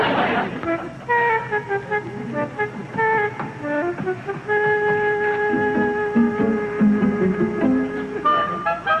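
A chorus of car horns honks over and over, overlapping in long and short blasts, with steady traffic noise rumbling beneath, in a traffic jam lasting nearly half an hour, caused by a driver slowing to 20 miles an hour in a 20-mile zone.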